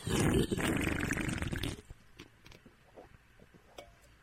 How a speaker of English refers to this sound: You have slurped soda very loudly. What, like this?